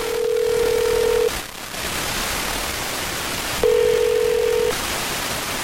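Telephone tones on an outgoing call placed by the hosts of the morning show on 102.9 The Wolf: two long, steady mid-pitched tones separated by a pause of a couple of seconds, over a constant background hiss, with no one talking.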